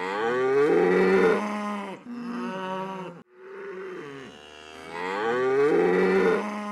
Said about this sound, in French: Qui meugle ainsi ? Meu. C'est la vache qui s'inquiète.